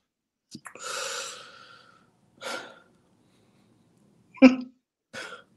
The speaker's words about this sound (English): And he's breathing heavy, like, adding to the suspense, huh? He's just selling it.